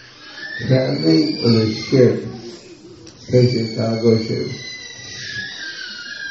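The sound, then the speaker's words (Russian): A thin, high-pitched electronic whine hums steadily throughout, wavering slightly like a faint siren, while a man speaks in two short bursts over it. “Вот эти звуки. Они, сирена, которая мешает вам уснуть.”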